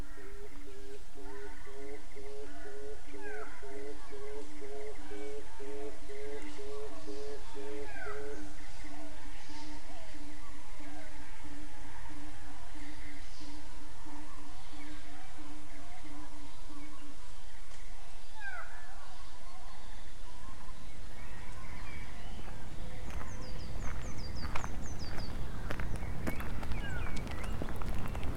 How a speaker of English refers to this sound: We don't have many warblers. The black cap singing there was the only one. It's early, still it's early for warblers.